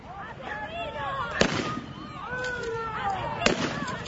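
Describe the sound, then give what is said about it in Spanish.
Two sharp, loud bangs of noise-making blank shots fired by police to repress a protest, a couple of seconds apart, cut through the noise of a crowd shouting and talking. “La policía reprimió la protesta con esos disparos que ustedes acaban de escuchar, que según algunos eran balas de goma, pero según la propia policía se trataba de disparos de estruendo.”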